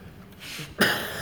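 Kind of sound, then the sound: human body sound, coughing fit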